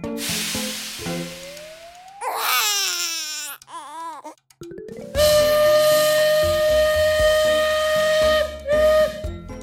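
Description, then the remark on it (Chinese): A baby wails in a few loud, wavering bursts, then a steady whistle-like tone takes over with rhythmic clattering underneath as a wooden toy train is played with. No one speaks. “宝宝不哭不哭啊，看我这台火车要开到哪里去呢？”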